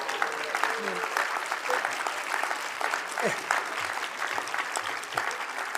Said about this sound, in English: Half of y'all not clapping. What's up, y'all?